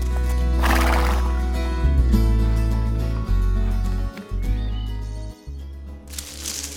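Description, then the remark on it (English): A horse whinnies loudly while its hooves clip-clop in a steady, unhurried rhythm as it is ridden slowly through a forest, with a second whinny near the end. “He rode slowly on his horse.”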